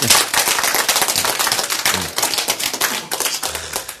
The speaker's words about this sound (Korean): 박수.